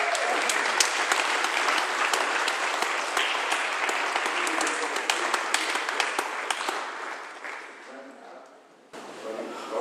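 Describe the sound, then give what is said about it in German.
A church audience applauds the youngest member of the audience, loudly and steadily with many overlapping claps, the noise thinning slightly toward the end before a brief resurgence. “Jetzt heißt es, dieses jüngste Gemeindemitglied, mit dem Applaus mal richtig.”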